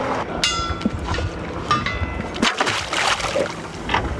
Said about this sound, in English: A drone loaded with a camera is lowered into the water. All right, I'm going to stop recording and disengage thrusters. Six propellers thrust the drone over the sandy bottom just above the grass.